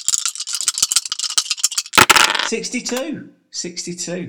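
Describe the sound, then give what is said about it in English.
Dice clatter rapidly inside a cup for about two seconds, a dense burst of sharp clicks ending in a louder rattle, followed by someone talking. “Okay, let's give the dice another shake.”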